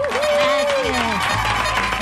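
Dense, steady applause from an audience fills the short moment, loud and close, with a single drawn-out cheer sliding downward over it near the start.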